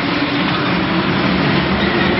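A metro train rumbles along steadily, a loud, continuous roar of wheels and motor with a low droning hum underneath, unbroken, with no voices.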